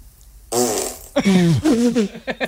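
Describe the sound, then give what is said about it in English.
A loud fart from a woman rips out in a long buzzy blast with wobbling pitch, then continues in several shorter squeaky bursts. No one speaks. “That's a toxic fart she's got.”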